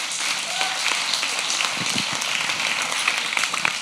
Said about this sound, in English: Let's give them a clap.